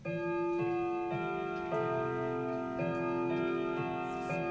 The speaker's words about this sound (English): That way, the oils on her fingers won't damage the brass. The clock needs winding every 3 days to keep it ticking and chiming.